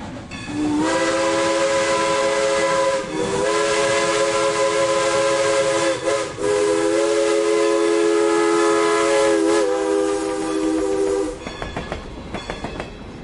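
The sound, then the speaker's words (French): A steam locomotive's whistle blows in long, loud sustained blasts with brief breaks, over the rumble of the train running, then gives way to rhythmic chuffing at the end. “Alors, il en reste quand même 4 aux États-Unis et y en a une qui roule, pas régulièrement, mais qui fait des trains spéciaux dans le Nevada.”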